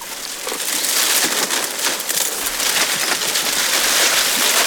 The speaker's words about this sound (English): And the rustling. Whoa. And that was the sound of a giraffe having something to eat.